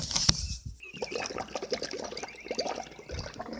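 Water sloshes and bubbles continuously for a few seconds, a busy liquid churning at moderate, steady volume with no voices.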